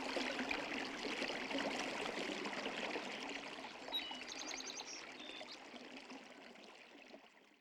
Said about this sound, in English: In this hour, we'll listen to the Hudson itself, from the fast-flowing Adirondack streams to the tidal estuary and New York Harbor, along with more interview excerpts.